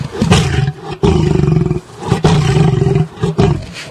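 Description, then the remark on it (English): A cat's glottal growl, slowed down to a much slower pace with its low end highlighted in a university audio lab in Miami, rumbles in loud bursts with brief gaps, sounding much like an angry lion's roar. No voices accompany it. “We took that sound and were able, the University of Miami has an audio lab, we were able to slow this down and to a much slower pace and also to highlight the low end, and this is what it sounds like.”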